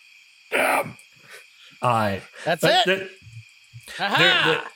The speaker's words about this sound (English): Crickets are starting to chirp. The sun is definitely getting low on the horizon.